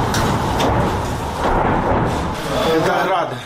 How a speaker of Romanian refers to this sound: Sunt rachete Grad. Au căzut foarte aproape.